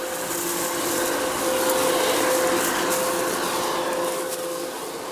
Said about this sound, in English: Leaf cleanup. That's because one reaction by trees to extended drought and heat is shedding leaves to preserve precious water and energy.